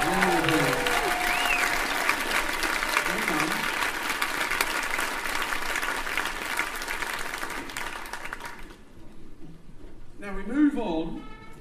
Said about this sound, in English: So here's some another big cheer for the concert band. I think they've done brilliantly.